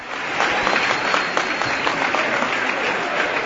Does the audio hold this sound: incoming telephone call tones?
no